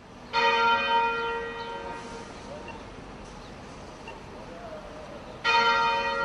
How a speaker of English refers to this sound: In Cape Town, South Africa today, the bells are tolling for Archbishop Desmond Tutu